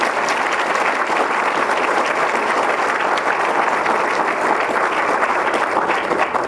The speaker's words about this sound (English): And let's have a round of applause for our Nike veterans.